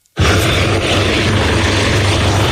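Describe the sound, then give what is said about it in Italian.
A helicopter takes off shortly before 9, its engine and rotor noise kicking in suddenly and holding at a loud, steady, dense drone with a low hum underneath. No voices. “L'elicottero si alza in volo poco prima delle 9.”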